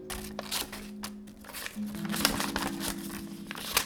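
An A4 sheet of paper being cut into 16 rectangles, with crisp snipping and rustling that comes in short bursts over a steady low background hum.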